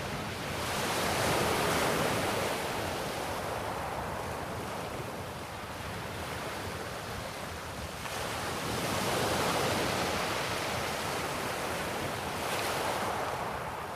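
Steady ocean surf washes onto a beach, broad and continuous, swelling in soft surges around the start, middle and end, with a faint breeze over the hiss of water; no voices.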